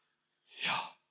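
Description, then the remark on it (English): A single deliberate, audible breath drawn in and let out, a soft airy rush that swells and fades in about half a second, with silence around it. “That literally in the action of breathing, you are saying the covenant name of God.”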